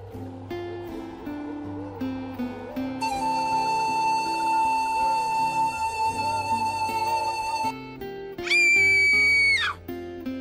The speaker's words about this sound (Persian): ناگهان صدای فلوت آمد. سری قطع شد و صدای جیغی آمد.